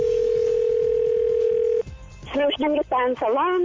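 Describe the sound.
A steady, unbroken telephone dial tone hums for nearly two seconds, then cuts off abruptly; after a short pause a person begins talking over the line in a prank phone call to a salon.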